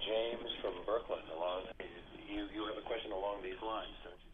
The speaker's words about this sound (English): you have to turn down your radio.